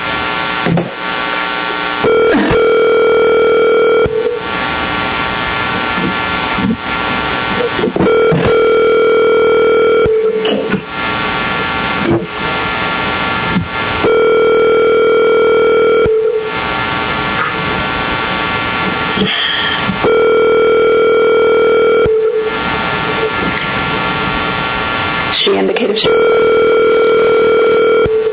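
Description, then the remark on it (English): A telephone ringback tone repeats steadily, about five long rings spaced a few seconds apart, going unanswered over a constant background hum and faint noise; a call placed to a licensee during a board hearing. “If we could go ahead and give her a call”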